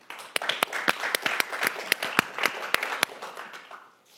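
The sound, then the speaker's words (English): A small audience at a live radio recording claps for about four seconds, responding to a prompt to applaud if they have ever had a miscarriage. A scattered patter of hand claps with a dozen sharper, louder claps standing out, tapering off at the end. No one speaks. “Applaud if you've ever had a miscarriage.”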